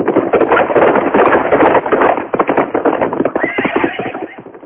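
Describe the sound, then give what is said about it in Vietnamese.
Loud, dense drumming of galloping hooves rushes by, nine horses at once, three ridden and six led as spares, racing east, with a horse whinnying over the pounding rhythm near the end. “Triệu Mẫn, Trương Vô Kỵ và Tiểu Chiêu, ba người cưỡi ba con ngựa, còn sáu con kia dẫn theo để thay đổi, phóng gấp về hướng đông.”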